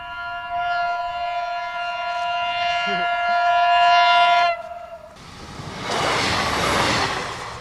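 A train sounds a long, steady horn blast as it approaches, then roars past at high speed with a loud, broad rush of wheels and air, at a railway crossing without lights or a barrier.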